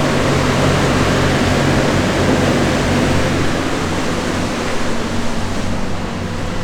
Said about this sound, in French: Là, ça y est, on commence à entendre déjà le bruit du moteur. On arrive donc à l'arrière du bateau.